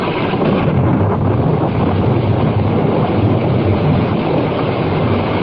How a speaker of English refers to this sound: Rain. Oh, gentle rain. The drought is ended.